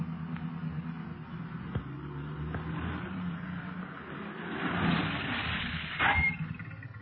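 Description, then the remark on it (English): Police car engines rumble steadily, swelling louder for a moment as the cars pull up and stop at a hill, then a brief knock or door-like thud before the motors idle down. No one speaks. “Meanwhile, the boys in the police cars approach the hill that was indicated on the map.”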